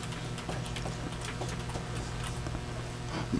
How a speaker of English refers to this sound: Alright, I sometimes wonder if I type, I pretty much bang on the keys. Can you hear that in the headphones? Yeah. Okay, yeah. But you're not the only one.